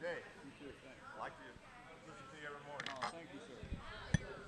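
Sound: glasses clinking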